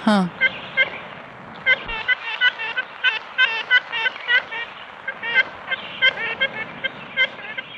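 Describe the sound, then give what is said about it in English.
An ivory-billed woodpecker gives a long string of nasal, trumpet-like toots, short honking notes repeated in quick irregular clusters at a fairly steady, moderate loudness throughout. “The ivory bill had this really distinctive trumpet-like call, like a toot-toot.”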